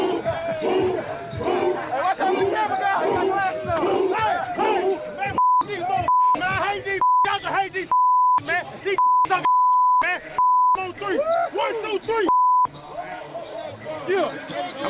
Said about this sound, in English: Actually, it was F them on three, and we had to bleep all that out.